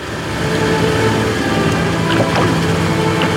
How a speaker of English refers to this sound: boarded a boat, and took her grief out onto Manila Bay.